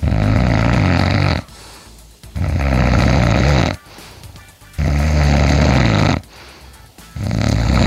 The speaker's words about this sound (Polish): Jak myślicie, kto tak pięknie chrapnął dzisiaj z samego rana?